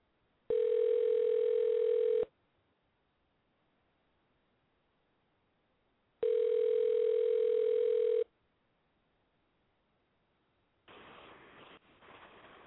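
An outgoing call's ringback tone buzzes twice, each steady, loud tone lasting about two seconds with a long silent gap between, then a burst of crackly static as the line picks up.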